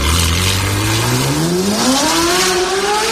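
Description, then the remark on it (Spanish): A Ferrari sports car engine roars loudly and steadily, its pitch climbing as it accelerates past, with no voices over it. “Ahí va el Ferrari.”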